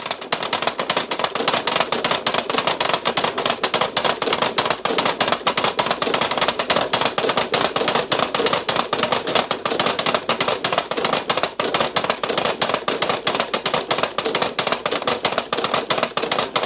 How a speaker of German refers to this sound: Es ist 12 Uhr. Sie hören die Ratschen zum Kasamstag aus der Kirche in Rietz im Tiroler Oberinntal.